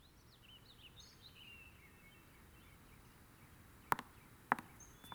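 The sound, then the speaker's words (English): Faint songbird chirps and warbling trills drift over a soft background hush, followed near the end by two sharp clicks a half-second apart. “It was the nightingale, and not the lark, that pierced the fearful hollow of thine ear.”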